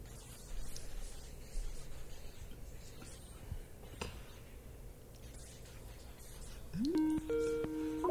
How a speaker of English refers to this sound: Oh, hang on. I think we're getting a call. What's that ringing sound?